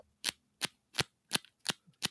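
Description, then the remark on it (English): Playing cards flipped through in the hand: six crisp, sharp flicks at a steady, unhurried pace, fairly loud, with quiet gaps between and no talking. “Because I'm just, because I can't do that thing where they, like, flip through the cards real fast.”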